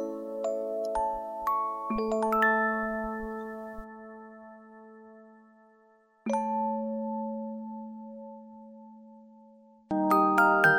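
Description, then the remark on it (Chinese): An alarm clock's bell rings to wake someone up, chiming in clear, ringing tones: a quick cluster of struck notes, then two more strikes several seconds apart, each tone lingering and slowly fading, with no voices. “于是那叮铃铃叮铃铃的铃声便是闹钟在叫我起床了。”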